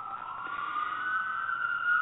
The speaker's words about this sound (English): Oh, those are some sirens. Yeah, I know. That's me, sorry.